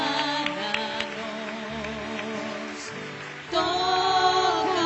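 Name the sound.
audience applauding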